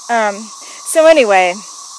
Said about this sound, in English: I'm going to see if I can get a photo of some of these cicadas. They're all over the road in the grass where I'm standing.